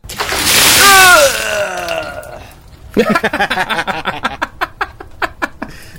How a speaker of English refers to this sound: That was very funny, Mr. Waiter. He said water, he got it in his face.